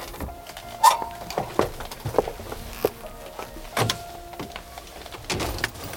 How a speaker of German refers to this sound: parkte seinen Wagen vor dem Gebäude und die drei Fragezeichen stiegen aus